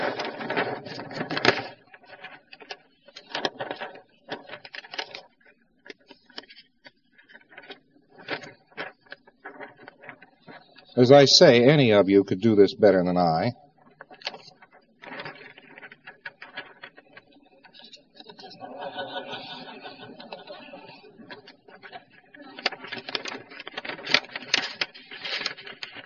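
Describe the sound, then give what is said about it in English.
Paper crinkles and rustles in short, scattered bursts as a piece of paper is creased and folded into a boat, with one longer, louder stretch of crumpling. A man speaks briefly in between. “We just have a piece of paper. Now I am going to create something.”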